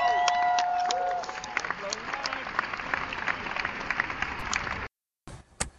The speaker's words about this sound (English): So we're going to watch this, and maybe, ladies and gentlemen, how about a round of applause for Sucker Punch? Thanks, guys. Woo!